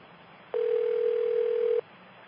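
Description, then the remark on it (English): A single steady telephone tone sounds for just over a second as a call is transferred to another phone, clear and even in pitch, then cuts off abruptly, leaving only faint line hiss with no one speaking. “That's Terry transferring the call.”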